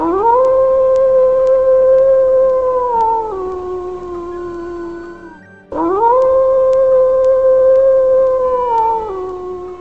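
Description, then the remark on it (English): Wolves howl in two long, steady, mournful calls, each held for several seconds before dropping slightly in pitch. The howls are loud, with a brief pause between them and no talking. “We'll also hear about the controversial move to eliminate the entire Profanity Peak wolf pack from Northeast Washington.”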